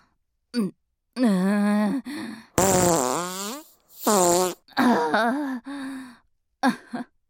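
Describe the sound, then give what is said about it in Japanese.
A voice imitates a string of farts: five or six buzzy, wavering blasts spread over several seconds, the loudest and raspiest one in the middle, with no talking. “おなら出ちゃいました。”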